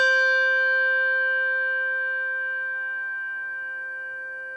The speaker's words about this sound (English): I have driven myself crazy trying to compare these two bells. Sometimes I hear a difference, but frankly, I think it might just be that I was holding the microphone in a different spot. Here, I'll play them again. Schoenwerk bell with tang.